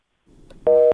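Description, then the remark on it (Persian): A single loud busy-signal tone sounds over faint line noise after a brief click, steady and clear for about a quarter second before cutting off, after a listener's phone call to a Radio Azadi call-in programme dropped. “خب تلفنی دوست ما قطع شد”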